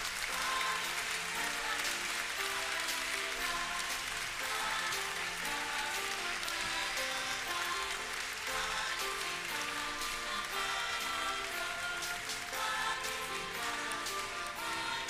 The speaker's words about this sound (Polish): Słyszymy oklaski i powoli opuszczę katedrę.